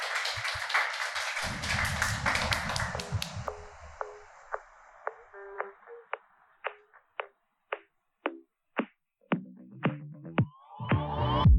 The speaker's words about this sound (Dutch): Maar eerst natuurlijk een heel groot applaus voor de vier hier bij mij aan tafel.